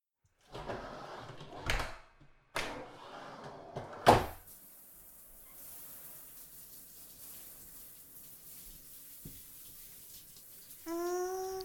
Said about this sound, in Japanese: シャワー気持ちいい。